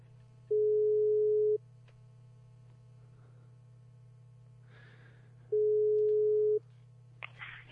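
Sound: telephone ringing tone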